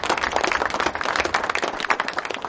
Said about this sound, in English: All right, give yourself a round of applause.